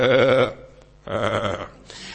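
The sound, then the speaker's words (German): Two loud, quavering sheep bleats, each about half a second long with a short pause between, and a third bleat begins just as the sound cuts off. No one speaks. “Also, die einzige Kommunikation, die Schafe, nicht einmal seine Schafe, sondern die Schafe seines Schwiegervaters.”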